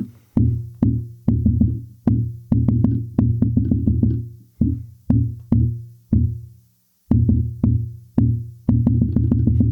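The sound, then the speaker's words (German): Dull tapping imitates the chaotic heartbeat of atrial fibrillation: thumps arrive at uneven intervals, sometimes in quick clusters, sometimes slowly, with brief pauses between and no talking. “Vorhofflimmern ist die häufigste Erkrankung, ist komplettes Chaos. Unregelmäßig, teilweise schnell, teilweise langsam, hört sich ungefähr so an.”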